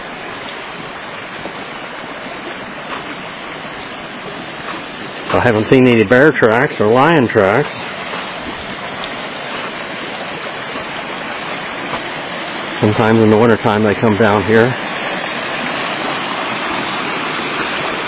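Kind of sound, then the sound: nature, rushing creek water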